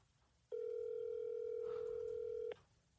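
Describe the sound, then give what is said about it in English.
A single steady electronic ringback tone from a phone on speakerphone, lasting about two seconds, clear and fairly loud, with quiet room noise before and after and no one talking. “Oh, here you go. Yeah. It's ringing. Speaker.”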